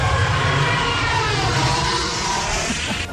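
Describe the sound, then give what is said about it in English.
The Star Wars TIE fighter flying sound effect: a loud, continuous screaming roar, an elephant's trumpeting call mixed with the hiss of a car driving over a wet road, sustained for about three seconds before dropping off abruptly. “The sound of the Star Wars TIE fighters flying through space was made by mixing an elephant's call into the sound of a car driving on wet roads.”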